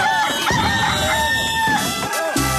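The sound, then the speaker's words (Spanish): The rooster of the Radioactiva show El gallo de Radioactiva crows loudly in a long, drawn-out call with rising and falling harmonic tones, followed by a shorter second crow near the end, with steady background noise throughout. “Con el gallo de Radioactiva.”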